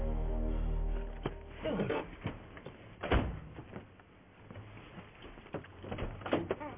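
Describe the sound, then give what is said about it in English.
A brick strikes a metal chain again and again in an attempt to break the chain, each blow a sharp clank; the hits come irregularly, a few heavy ones standing out among lighter rattles, with no talking. “You got me trying to break a chain with a brick?”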